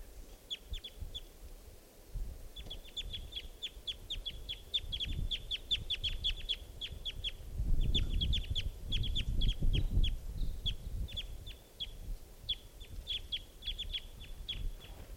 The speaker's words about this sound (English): There's a wild, immature, I believe, male here, molting into sort of an orange plumage, and that's him calling. I think it may be the same bird as before. Wild bird.